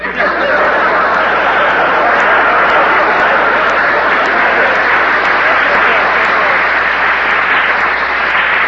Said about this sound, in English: there's two ways to take that applause, you know.